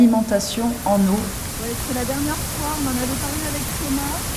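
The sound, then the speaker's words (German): Water rushes steadily over the overflow of the Saint-Ferriol reservoir, fed by streams of the Montagne Noire and filled to overflowing after days of rain, a loud, unbroken roar filling the whole recording, while a voice talks on top of it. “Nach dem Regen der letzten Tage ist er bis zum Überlauf gefüllt.”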